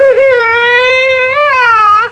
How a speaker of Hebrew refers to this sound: למה את בוכה? אני רעבה.